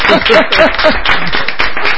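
An audience breaks into steady, sustained applause for about two seconds, a dense wash of clapping with a few voices calling out over it near the start.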